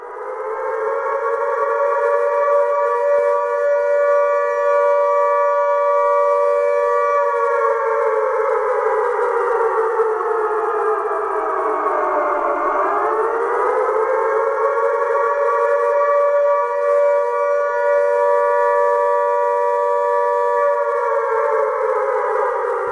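A loud civil defense alarm siren sounds the threat alarm signal, wailing steadily with its pitch gliding down and back up in a slow modulated cycle, a signal that lasts three minutes, sounding alone with no voices.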